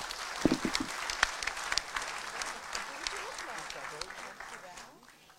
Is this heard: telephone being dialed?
no